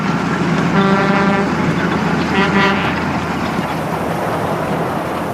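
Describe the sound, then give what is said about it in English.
A truck roars past at high speed on a road, leaving a wake of dust, a loud, steady rush of engine and road noise, with two brief horn-like tonal blasts sounding early on. “A truck passes at high speed, leaving a wake of dust clouding my vision.”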